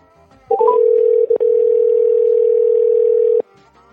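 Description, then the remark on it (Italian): A steady, loud phone dial tone sounds alone for about three seconds, briefly interrupted near the start, preceded by a few quick rising beeps as the outgoing call is placed. “Un attimo soltanto, che qui si è richiuso lo schermo e parte la telefonata.”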